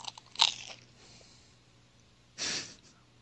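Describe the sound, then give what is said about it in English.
Two loud crunches of someone biting into crisp toast crust, a sharp bite early and a longer grinding crunch about two seconds later, with quiet breathing between. “That was a crunchy ass piece of toast.”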